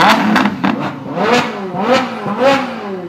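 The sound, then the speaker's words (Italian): A Lamborghini sports car engine revs repeatedly, its pitch climbing and falling in several loud surges over a few seconds, with no talking. “Allora, rombo di auto, Ferrari oppure Lamborghini, un attimo li faccio risentire così sentiamo poi la tua risposta.”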